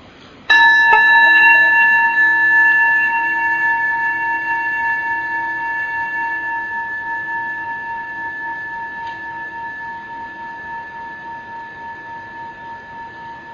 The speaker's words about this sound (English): Listening to the sound of the bell, letting its vibrations send loving kindness to our hearts.